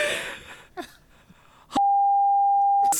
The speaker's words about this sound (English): Can I beep that out? Yes, you can beep that out.